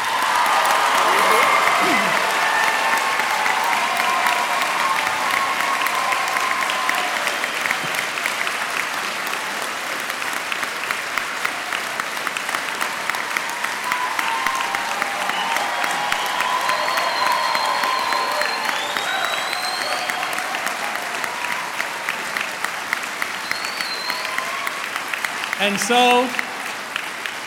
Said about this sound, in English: And I'm going to do what I've done with them and ask you not to have a moment of silence to mourn their passing, but would you help me celebrate the lives of the people we lost by giving them a round of applause?